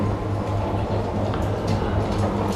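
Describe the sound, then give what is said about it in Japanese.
Inside the moving six-car limited express train Tanigawadake Mogura, next stopping at Kumagaya: a steady low rumble and droning hum with faint rattling over the tracks, continuous throughout with no voices. “この電車に車内販売はございません。”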